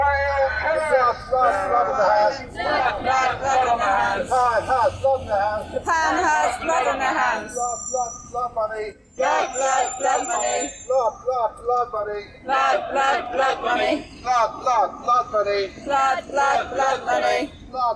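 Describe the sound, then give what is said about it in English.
A protest crowd in London against Faroe Islands dolphin and whale killing chants and shouts in loud, rhythmic bursts of raised voices, repeating phrases in steady cycles with brief pauses between, amid a background hubbub of chatter and whoops. “We've done two protests. We started at the Danish embassy, just near Sloane Square, that also represents the Faroese government.”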